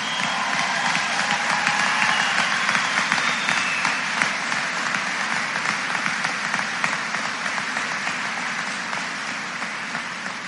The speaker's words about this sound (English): Ladies and gentlemen, parents, friends, family in the audience, I present to you the newest alumni of Fort Recovery High School. Give them another big round of applause.